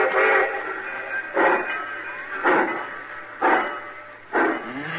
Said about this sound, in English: Cussing train's pulling out right on time for once.